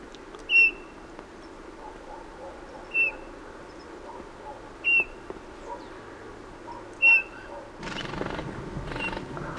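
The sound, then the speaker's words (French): Four soft, clear piping whistles from a bullfinch at spaced intervals, followed by a sudden rustling flutter of wings as it takes off, lasting a couple of seconds to the end. “Bruit des ailes, il s'envole.”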